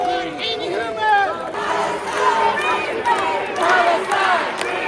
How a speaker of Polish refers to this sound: Gdy hasła wypełniły główną halę stacji Liverpool Street